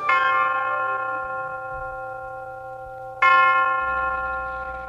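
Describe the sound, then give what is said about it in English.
The University of Detroit tower chimes ring out in two strikes about three seconds apart, each a loud, resonant bell tone with a long shimmering decay, heard alone over a faint low rumble, opening a session of the radio program Ask the Professor. “The University of Detroit Tower chimes ring in another session of Ask the Professor, the radio program on which you match wits with University of Detroit professors in an unrehearsed session of questions and answers.”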